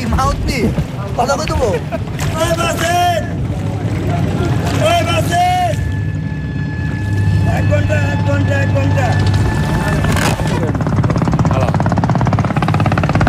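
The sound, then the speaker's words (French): A boat engine drones steadily, a low chugging rumble that runs the whole time while several people talk over it, on a small wooden boat on a river among crowded sampans. “Voilà, c'est un bateau.”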